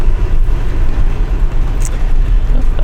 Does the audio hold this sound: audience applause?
no